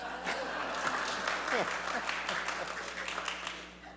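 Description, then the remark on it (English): Steady applause from an audience, dense overlapping claps filling the whole stretch at a moderate level, with a few voices calling out underneath. “What? No applause?”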